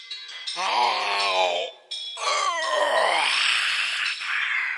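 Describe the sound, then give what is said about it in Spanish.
A voice imitates a monster's huge yawn in two long, loud, groaning stretches, the second one sliding downward in pitch as it fades, with a brief pause between them. “Y entonces el ogronte comenzó a caminar hacia Irulana. Comenzó a caminar y a bostezar.”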